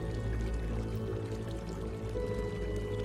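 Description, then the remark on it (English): A steady, continuous wash of ocean waves rolls in with no break, set against a soft, sustained musical drone; no one speaks. “Slowly, calmly, you can hear the waves coming in, and just in front of those waves is a bird.”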